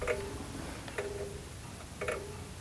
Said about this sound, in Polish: Dlaczego wisi krzywo? Dlatego wisi krzywo, że gospodarz weźmie, bo jeżeli zegar kuleje, to znaczy się, posłuchajcie, on teraz bardzo dokładnie idzie i w prawo, i w lewo.